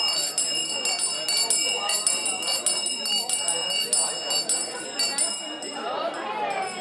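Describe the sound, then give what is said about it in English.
A bright bell rings steadily with a sustained, shimmering tone, rung every five minutes to signal people seated at round tables that it is time to switch, heard over the busy murmur of many people chatting. “Every 5 minutes, a bell would ring, signaling that it was time to switch.”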